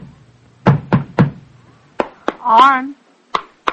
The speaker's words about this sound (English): His Excellency, the landowner's wife, was a particularly robust lady, and so Arne was swinging his hammer with a fine, round stroke, and the tap, tap, tap echoed from the rafters.